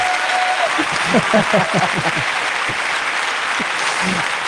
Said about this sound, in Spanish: Aplauso para la ruina